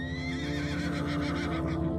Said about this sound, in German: Du probierst es gleich noch einmal aus und streichst vorsichtig über die Zeichnung. Wieder hörst du das leise Wiehern.